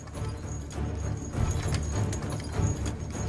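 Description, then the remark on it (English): Horse hooves clip-clop in a steady, uneven rhythm over a low rumbling background, the hoofbeats fairly loud, with no voices. “Of course, except this one. Such horses will not move 1.5 tons.”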